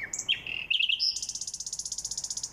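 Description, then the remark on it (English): A nightingale sings in Berlin, Germany: a few varied whistled notes give way to a rapid, evenly pulsed trill of high chirps repeated about a dozen times per second, clear and fairly loud with no talking. “I hadn't heard as many nightingales as usual once they arrived from Africa on April 20th”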